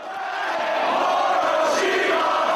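A wrestling arena crowd in Manhattan cheers in a loud, steady roar of many voices during a bout between Danielson and Morishima, with scattered shouts rising above the din and no clear speech.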